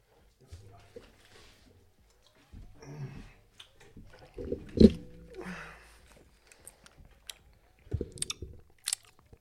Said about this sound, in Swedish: Fan, man ska aldrig tugga godis i micken. Det låter så jävla äckligt, men satan så gött med frukosten. Så jävla gott med frukosten.